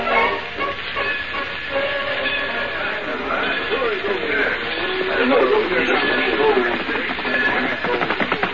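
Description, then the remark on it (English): A steam train rolls along the tracks with a steady hiss and rhythmic clatter, fairly loud, while indistinct voices murmur beneath the noise. “We want to get to the station when the train does.”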